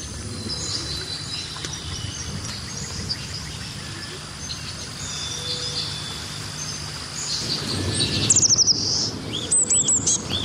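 Birds chirp and tweet throughout, with thin high calls over a steady insect-like hum, then a burst of rapid descending trills and repeated sharp notes near the end, clear.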